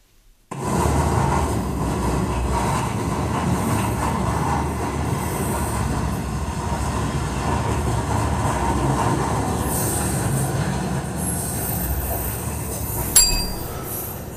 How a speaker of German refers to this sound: U-Bahn? Zug? Ja, Güterzug. Güterzug!